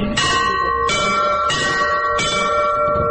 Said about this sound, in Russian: Поэтому надо убирать и сразу отпускать руку. Вот так. Теперь добавьте вот эти два подзвонных колокола. Первый и второй.